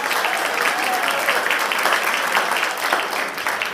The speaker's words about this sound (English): a round of applause for Peter in